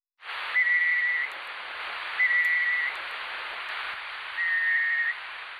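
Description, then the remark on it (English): A night parrot's whistling call: three drawn-out, steady mid-pitched whistles, each under a second, spaced well apart over a constant background hiss. “Before 2013, scientists did not know what the birds sounded like. But then a night parrot was found in the state of Queensland.”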